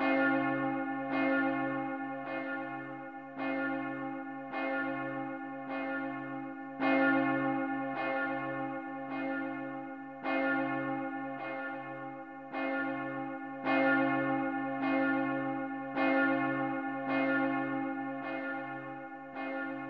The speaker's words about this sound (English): Listen to the bell.